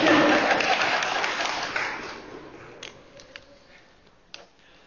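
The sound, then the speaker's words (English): A burst of audience applause, dense and fairly loud at first, that thins out over a few seconds into scattered individual claps before fading away. “Yes, everybody give her a clap.”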